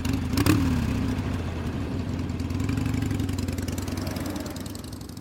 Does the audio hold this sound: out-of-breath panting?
no